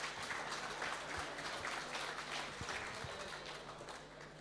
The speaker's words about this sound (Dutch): En mag ik even een applaus voor haar, want ook zij is vandaag echt ook wel in touw geweest. Burgemeester Harriet Westerdijk, graag u even uw applaus.